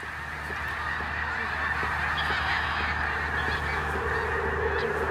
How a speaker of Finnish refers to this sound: Valtavia noita lintuparvia menee tuolla. Tää on hienoa aikaa, kun niitä menee koko ajan. Onkohan ne muuttomatkalle lähdössä? No kyllä se vähän siltä vaikuttaisi.